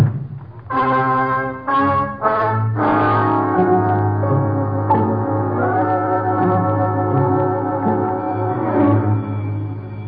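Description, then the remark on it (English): A school recess bell rings loudly and steadily for about ten seconds, opening with a few quick choppy bursts before settling into one continuous, droning clang. No one speaks over it. “Must be the recess bell.”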